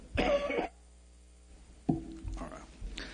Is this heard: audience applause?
no